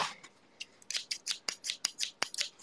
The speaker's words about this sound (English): Gonna use the scissors to cut these. Okay. I'm not very good at scissors. I'm gonna either do this perfectly or injure myself.